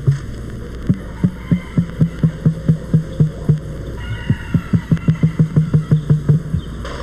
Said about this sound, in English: And this strange thumping the emu generates in its breast sounds like nothing else in the world.